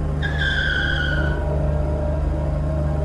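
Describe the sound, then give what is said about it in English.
A car driving alongside sideswipes another: a sharp, high tire screech cuts in for about a second, then fades, leaving a steady engine rumble droning underneath. No voices. “One car driving beside us clipped us.”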